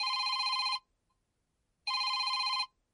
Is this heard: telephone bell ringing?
yes